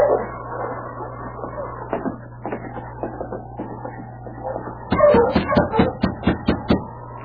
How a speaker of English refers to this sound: Someone coming. I can hear footsteps.